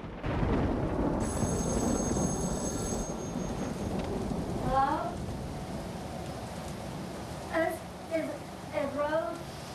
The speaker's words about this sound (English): Instead, their eyes remain glued to the spectacle of the fearsome weather. Rain streams down the window, and lightning sporadically illuminates the room.